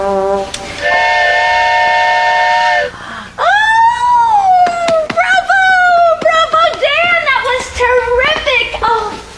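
signal or alarm, steam train whistle

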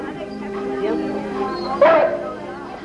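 animal, dogs barking and whimpering

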